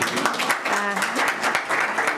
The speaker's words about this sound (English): She deserves a clap, an applauso.